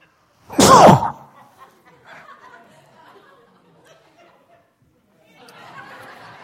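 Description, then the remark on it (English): A single loud, sharp sneeze bursts out near the start, followed by quiet murmuring and faint rustling, with soft voices returning toward the end. “I'm going to sneeze.”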